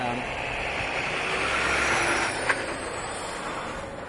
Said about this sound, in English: I suppose you can hear this big truck coming as I'm slowly walking home from my own car.